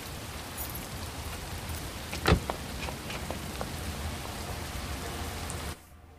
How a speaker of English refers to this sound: They arrive home in the darkness, and rain pelts down on them.